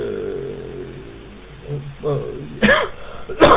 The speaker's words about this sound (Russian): Извини меня, такой бронхиальный кашель. Я более 2 недель дома лежал. Думал, что это зараза прилипла, но оно нет. Вот. Тут маленько простыл